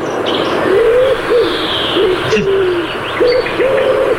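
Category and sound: bird, pigeon cooing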